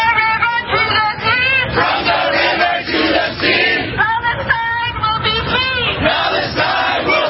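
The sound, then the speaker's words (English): A large protest crowd in Times Square chants loudly in unison over the weekend, many voices rising and falling in a steady rhythmic pattern with shouted syllables, continuous and dense throughout. “They kept chanting that, and that is really, Denise, what they're saying is push Israel into the ocean.”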